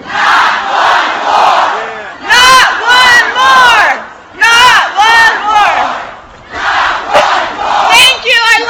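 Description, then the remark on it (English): A large crowd screams the protest chant 'Not one more!' in unison, loud rhythmic bursts repeated several times with swelling, high-pitched voices and brief gaps of crowd noise between. “Can you scream that to the White House? Not one more! Not one more!”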